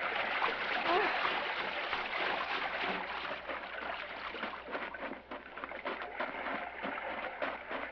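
Steady splashing and sloshing of sea water as two people swim in a calm, gently rolling sea with phosphorescent surf; a dense, continuous wash with small irregular splashes throughout, fairly loud and without clear speech.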